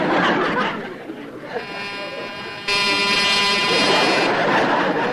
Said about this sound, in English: You know that bell sticks.